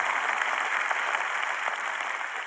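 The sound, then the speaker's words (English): A church audience claps their hands together in praise of God, a dense, steady wash of applause that holds at an even, fairly loud level throughout, with no voices standing out. “Let's clap our hands and praise him for the times that he brought us to shore on a board.”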